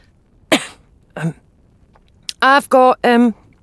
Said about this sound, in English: From just behind her, the doctor gave a polite cough.